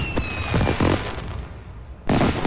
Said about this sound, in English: Or launching those celebratory fireworks.